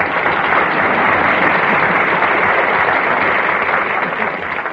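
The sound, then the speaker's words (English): A crowd claps steadily and loudly for Ned Sparks, the screen actor, a dense continuous wash of many hands with no pauses, holding its level for the whole stretch before easing slightly at the end. “Kind of a noisy place in here, isn't it, Don? Well, that's applause for you, Ned.”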